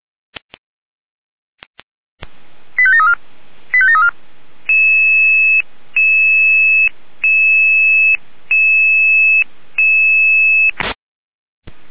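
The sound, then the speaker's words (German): Jena radio dispatch alerting tones for a fire brigade call-out to a bus stop in Wogau to recheck a bus fire: a few clicks, then warbling tone bursts followed by a long repeating pattern of steady paired tones cycling on and off, loud and clear, ending in a burst of static. “Gleich Jena mit Alarmierung.”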